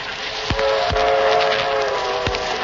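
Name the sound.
train running on rails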